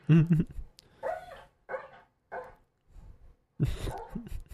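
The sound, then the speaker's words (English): A big dog barks loudly: a deep, booming bark opens, followed by a few quieter, whinier vocal bursts, then another heavy bark near the end. “Like, it's a big dog with a big bark.”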